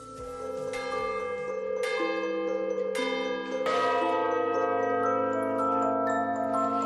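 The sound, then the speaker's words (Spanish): The bells of the church tower of Santiago el Mayor in Utrera, Seville, Spain peal loudly and continuously, with fresh strikes ringing out every second or so over a rich, sustained wash of overlapping tones. “Te recuerdo que se trata del campanario de la iglesia de Santiago el Mayor, en Utrera, en Sevilla, y que normalmente cuando escuchas el repicar de estas campanas no piensas que alguien las hace sonar.”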